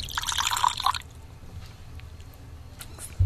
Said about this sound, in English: And so what I'm doing is this is a still cider, so it's uncarbonated. We bottled it still. And you do a long pour, an escanciar. And what's happening when you're doing that is you're aerating the cider.